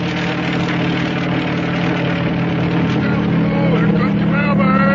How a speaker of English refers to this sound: And that helicopter is bringing his mail from the United States.